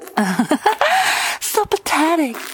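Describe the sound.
A string of raspy, breathy gasps from a voice, some strained and voiced, arriving in quick uneven bursts with short pauses between them.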